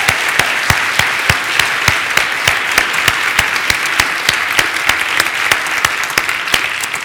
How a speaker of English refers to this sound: I'd like for us to applaud our board of trustees.